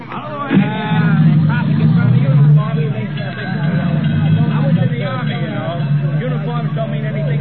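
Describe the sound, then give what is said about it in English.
A dense crowd of onlookers at a death scene on a street murmurs with many overlapping voices as it disperses, with a low rumble of street traffic beneath it, staying fairly steady throughout. “Then the sound of death fading away. And then the crowd, too.”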